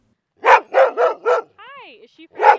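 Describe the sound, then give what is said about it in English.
Loud dog barks on a trail in the Shoshone National Forest, Fremont County, Wyoming: four quick ones in a row, then a rising and falling whine and a soft yip, followed by one more bark. “she's had to be careful when she takes her dogs out on public land”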